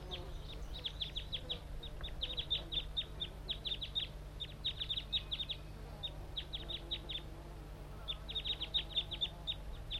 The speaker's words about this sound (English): Perhaps the wild bird is also calling.